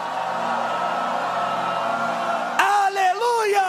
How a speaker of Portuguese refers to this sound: Vou lá, 1, 2, 3, forte, forte, forte, forte, bota para fora, forte, grita, grita, grita, toda a tua força, grita, grita, grita.